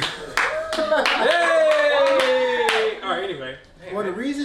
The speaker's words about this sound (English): Wait, that was like a round of applause moment.